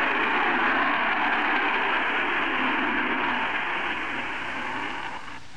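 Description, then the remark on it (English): A rocket launch roar as a slim rocket carrying a capsule rises slowly into a clear sky on a searchlight-like flame: a dense, continuous rumbling blast that stays loud and steady for several seconds, easing off slightly at the very end, with no voices. “And now the sound goes louder and louder and swallows everything.”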